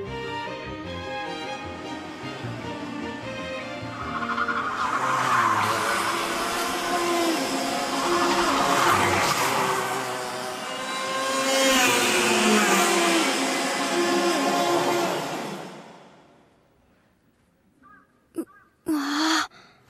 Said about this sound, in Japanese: そうさ、エンジンつけてカート専用のサーキットで走るんだよ。俺たちと同じ年ぐらいのやつらも走ってるんだぜ。